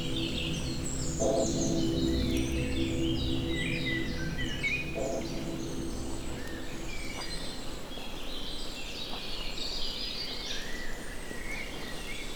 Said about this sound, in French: Au cœur de la forêt creusoise. Entre nuages et soleil. C'est le concert des oiseaux.